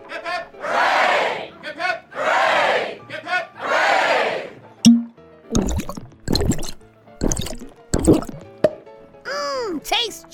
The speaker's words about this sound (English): Three cheers for Tommy.